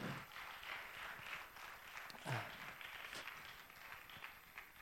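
An audience claps together in steady, dense applause that holds at an even level for about five seconds, with a few sharper individual claps standing out and no talking.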